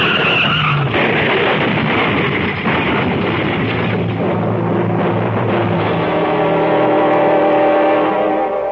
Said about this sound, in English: that car ahead. It's skidding. Now, hold on. Hold on.